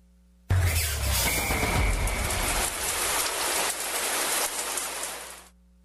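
A shower runs in a steady, loud hiss of spraying water that starts abruptly and pours for about five seconds before tapering off, with no voices.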